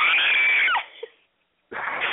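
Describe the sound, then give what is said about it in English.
A voice imitates Dean's loud, piercing high-pitched scream when a kitten falls out of a locker, held for under a second before it breaks downward and cuts off. After a brief silence, another burst of harsh, noisy vocal sound begins. “And a little, like, kitten falls out, and Dean lets out the most female-ic scream you've ever heard.”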